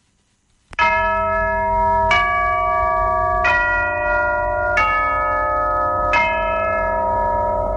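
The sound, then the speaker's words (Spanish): A song opens with slow, resonant bell tolls, five evenly spaced strikes whose long ringing overlaps the next, loud, with no voices. “Y, por ejemplo, para ese día, para el día 30, puede ser una canción, pues, como esta.”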